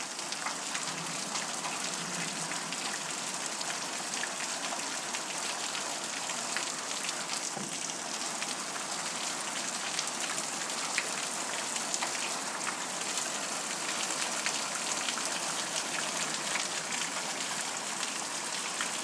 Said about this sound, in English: This is a nice Florida storm for you.